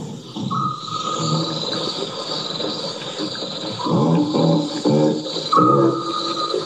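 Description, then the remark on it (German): A series of deep, throaty baboon grunts, some coming in quick bursts and others more drawn out, over a steady hiss of background noise. No one speaks. “Genau, so klingt ein Pavian-Grunzen.”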